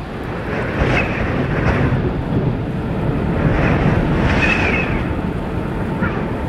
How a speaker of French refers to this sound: C'est arrivé très brutalement. Et en fait, c'est caractéristique de ces petites tempêtes. Qui par moments se lève très très brutalement, alors que voilà. Cet après-midi il faisait encore super beau.